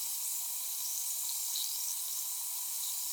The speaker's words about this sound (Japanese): 炭酸音の気持ちよさ、存分に味わってくださいませ。